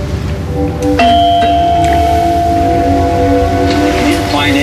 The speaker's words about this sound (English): Why don't you go and ring the doorbell? Because I'm the star and you're the dog's body. Okay. Ring the doorbell. Okay, okay.